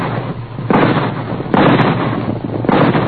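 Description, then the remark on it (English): Three loud rifle shots ring out at uneven intervals, each a sharp crack followed by a rumbling, echoing tail, with a low steady hum underneath and no voices. The shots are fired on a trail and startle a herd of caribou. “At the sound of the rifle shots, the frightened caribou raised their antlered heads and began to run.”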